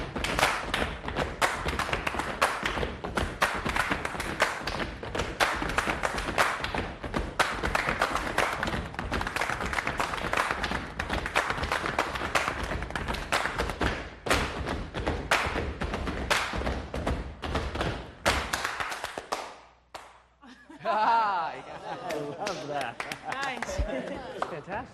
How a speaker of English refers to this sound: Well, you use your hands and your feet and a lot of other things, don't you, when you do your stomp work?